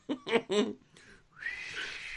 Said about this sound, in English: I can't whistle right now.